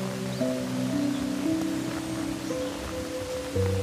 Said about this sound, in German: Die dritte Reitetappe führt euch an einem tosenden Wasserfall vorbei. Schon von Weitem kannst du hören, wie das Wasser in die Tiefe fällt.